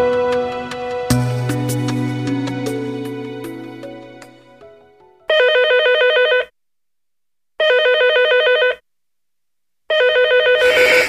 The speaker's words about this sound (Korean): 야, 전화 좀 빼버려. 보나마나 빚쟁이야. 아, 집주인 전화 수도 있잖아.